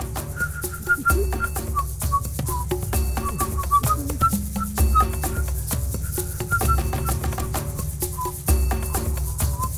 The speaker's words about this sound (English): And the Africans were singing in the whole sort of thing. And they were playing different things and whistles.